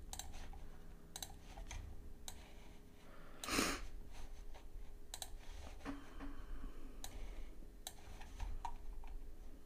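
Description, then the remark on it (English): Scattered sharp mouse clicks tick at irregular intervals over a low steady hum, with one louder rustling burst partway through; no one speaks. A computer mouse clicks on a 'how it works' menu item on a website's main page. “So I'm clicking on that.”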